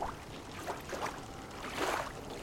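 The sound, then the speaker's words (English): Soft lapping of little waves at a steady pace, broken by a louder splash near the end as a fish leaps and drops back into the water. “Oh, that was big, whatever it was. Fish jumping, of course.”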